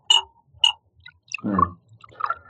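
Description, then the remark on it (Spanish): Two bright glass clinks, then a short gurgling pour of water from a glass carafe into a glass, taken from a bedside table in a hotel room, fairly quiet, ending with a few softer clinks. “Calimán retira del buró el botellón de cristal que contiene agua y un vaso”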